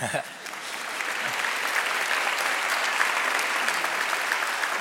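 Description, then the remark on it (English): An audience breaks into sustained applause, a dense, steady wash of many hands clapping that holds at an even, fairly loud level throughout without fading. “Before you clap anymore, I do need to be honest.”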